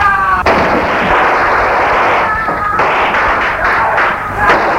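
gunshots

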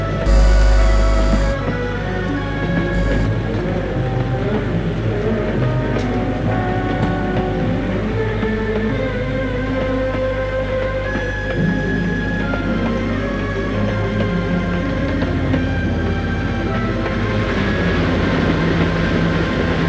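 train travelling on rails

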